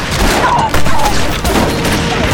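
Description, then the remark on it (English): A loud volley of gunfire as armed men on horseback shoot into a village, many shots cracking close together in a dense, chaotic burst that continues across the whole moment, with no one speaking. “The girl's scream and the sound of gunfire alerted the others in the village, and several stuck their heads out to see what was going on.”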